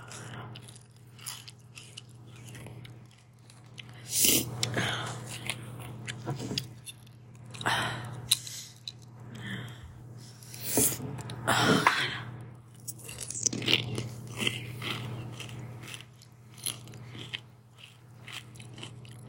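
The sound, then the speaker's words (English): Crunching on crisp mini taco bowls topped with fresh ingredients, with repeated loud bites and chewing in irregular bursts over a steady low hum, no talking. “Mini taco bowls. It's amazing.”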